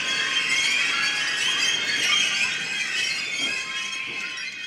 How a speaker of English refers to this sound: We understand that we could be over-romanticizing a skronking and squeaking escalator.